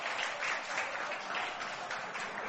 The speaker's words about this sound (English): Big round of applause for that.